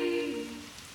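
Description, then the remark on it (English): Soft, steady rain patters in a continuous hiss, opening with a brief sustained musical tone that fades out after a moment, leaving only the gentle wash of falling drops. “Drip, drop, drip, drop upon the housetop. Pitter, patter, pitter, patter on the window pane.”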